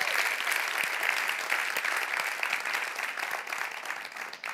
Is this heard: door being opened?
no